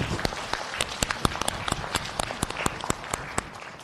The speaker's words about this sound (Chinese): 咁我哋即系好多谢佢哋吓，咁我哋或者俾少掌声佢哋啦。